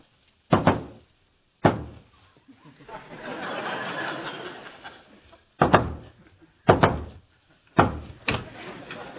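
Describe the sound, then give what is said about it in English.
Sharp, loud knocks on a door, a secret knock, land at uneven intervals, two early and three later, with a stretch of soft muffled laughter or murmuring filling the gap between them. “That's not the secret knock. This is the secret knock.”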